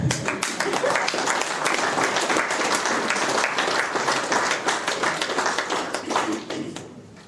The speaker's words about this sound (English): Cue the applause.